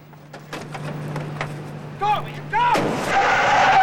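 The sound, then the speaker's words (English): A car's tires squeal in two short rising chirps, then a loud, sustained screech as the car pulls up hard to a stop by a club as people scatter from it, following scattered sharp bangs over a low steady hum. “On cue, Bobby pulls up.”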